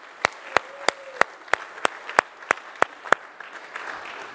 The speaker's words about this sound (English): Give him applause.